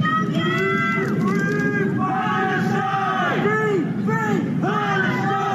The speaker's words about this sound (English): A crowd gathering around the Palace of Westminster in London, where a barefoot man holding a Palestinian flag climbed up Big Ben, the famous clock tower, on Saturday.